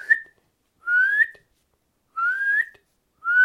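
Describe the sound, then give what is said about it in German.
A nightingale gives its contact call: loud, bright rising whistles, four of them spaced about a second apart, each clear with silence between. “Das ist ein lauter, heller Pfiff und ihr Schnarren.”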